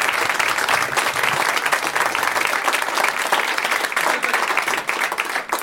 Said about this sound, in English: Long applause. Very, jeez. That was a good one, yeah.